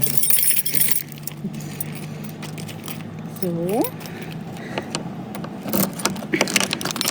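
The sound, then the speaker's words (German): Keys jangle and clink against the heavy lock of a thick, large, heavy door as the lock is removed, with scattered metallic clicks and rattles throughout and a brief spoken word midway. “Ich bin gespannt, wie sich diese dicke, große, schwere Tür denn anhört, wenn wir sie jetzt mal öffnen.”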